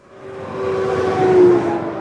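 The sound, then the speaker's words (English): A big rig truck roars down the highway through the oil field town of Orla, Texas, in the Permian Basin, its heavy engine rumble and a steady droning tone swelling louder, peaking, then easing slightly as it passes. No voices. “Big rigs barreling up and down the highway, hauling everything from oil and gas to water and sand.”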